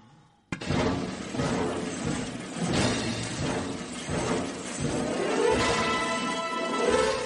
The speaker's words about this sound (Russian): Такой звук получился с помощью, посмотрите в черный ящик, связки ключей. Предмет, связка ключей, состоящий из хорошо известных вам предметов.